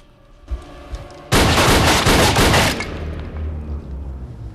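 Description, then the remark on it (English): A woman grabs her gun and shoots at a door: a loud burst of gunfire, several shots fired in rapid succession for about a second and a half, followed by a low lingering rumble as the noise dies away. “She waves her hand, and when the action's mirrored on the TV, she grabs her gun and shoots at the door.”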